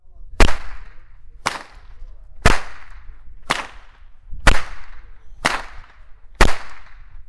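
Seven sharp cracks of a rope whip, swung by a traditional whip-cracker, ring out at a steady pace about one second apart, each a loud, bright snap with a brief fading tail, over a low background rumble.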